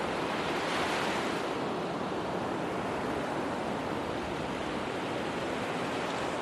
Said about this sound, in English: I wanted to describe the sea for you, but every time I face this blue, astonishing vastness, I can't find the words. So I just stare at it and listen.